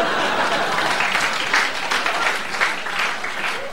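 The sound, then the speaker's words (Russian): Steady applause from girls in an audience, dense overlapping claps filling the whole stretch at a fairly loud, even level with slight swells, no one speaking over it. “Да-да-да, девушки аплодируют, я вижу.”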